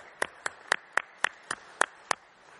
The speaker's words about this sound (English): And I'm clapping too,